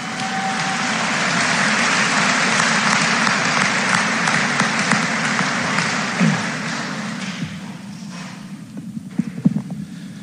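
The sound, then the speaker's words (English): A crowd applauds athletic key award winners at an awards ceremony, a dense, even wash of clapping that holds loud and then gradually thins, with a few scattered louder claps near the end. “Let's give these other winners a big round of applause.”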